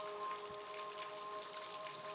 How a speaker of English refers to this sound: I chose a combo of things. Birds, rain, eternity, thunder. Okay. Anyway, when they all play together.